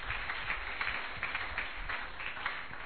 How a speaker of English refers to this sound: Clap your two hands together for you.